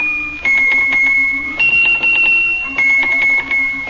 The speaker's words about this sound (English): I know you're going to play your little Swiss bells for us today